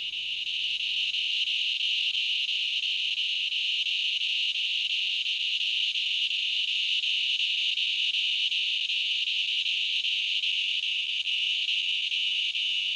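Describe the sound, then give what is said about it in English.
A loud, continuous drone of Tibicen auletes, the largest cicada species, calling at dusk just before full dark, an unbroken high-pitched whine with no pauses or rhythm, dominant with nothing else in the background. “That's Tobison aulides, which is our largest cicada.”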